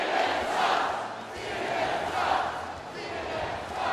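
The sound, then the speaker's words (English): A large rally crowd chants in unison, a loud roar of many voices that swells and falls in a steady repeating rhythm, roughly every second and a half, with no single speaker standing out. The crowd is taking up a chant calling out CNN by name. “And calling out CNN by name, which the crowd quickly took up.”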